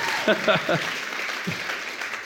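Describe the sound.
An audience claps steadily in a dense, crackling wash of applause, with a few brief voiced shouts or cheers rising over it early on before the clapping carries on alone.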